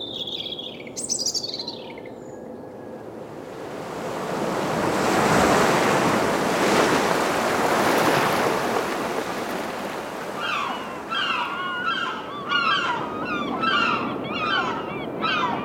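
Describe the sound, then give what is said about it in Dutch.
Surf washes in a steady, swelling roar with wind on the Belgian coast, from Knokke to De Panne, while seabird calls ring out in a short burst near the start and then in repeated cries over the waves toward the end. “Zo klinkt het van knokken tot de pannen.”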